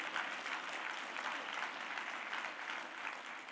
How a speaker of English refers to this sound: Now clap your hands and give God praise.